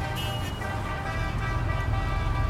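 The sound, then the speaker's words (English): A loud, rough engine of an old bus rumbles steadily as the bus comes in, its deep low growl mixed with rattling and a faint whine, idling and revving with no voices over it. “Oh, boy, this bus looks like it was built in 1850.”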